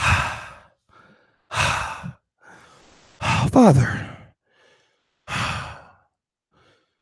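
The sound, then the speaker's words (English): A man's voice imitates Jesus breathing hard in heaven: heavy, labored panting, four loud, breathy gasps spaced a second or two apart, with faint inhales between them and one strained, voiced moan mid-sequence. A single word is spoken. “Jesus breathing hard.”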